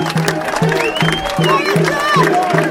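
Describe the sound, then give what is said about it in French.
A crowd applauds and cheers loudly and steadily as a cup is presented to a club president at a Régional 2 under-16 event. Shouting voices rise above a dense wash of clapping, and a low, rhythmic pulse repeats roughly every half second. “Comme on pouvait applaudir, et on lui remet cette coupe-là.”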